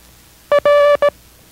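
A single Morse code letter sounded as a steady mid-pitched tone: a short beep, a longer dash, then another short beep, loud and clean with no talking over it.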